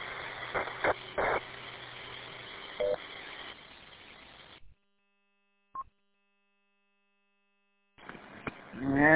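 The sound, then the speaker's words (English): Over hissy radio static on the WI9HF Link repeater system, a few short electronic tone bursts sound, then the channel falls silent and a brief two-tone repeater courtesy beep chirps before noisy transmission resumes. “It has the nice double-toned beep.”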